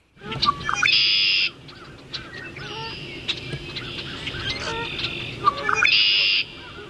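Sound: red-winged blackbird call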